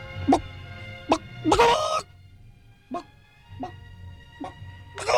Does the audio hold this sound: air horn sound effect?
no